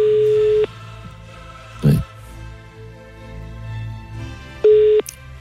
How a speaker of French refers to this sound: Allez, on appelle. Faites-moi sonner le téléphone.